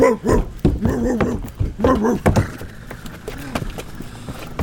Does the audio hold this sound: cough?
no